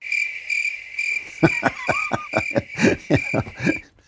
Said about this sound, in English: Crickets.